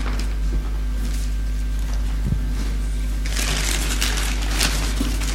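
Gift wrapping paper crackles and crinkles steadily as a present is unwrapped, then a louder burst of rustling and tearing takes over toward the end as the paper is torn open, with no talking over it.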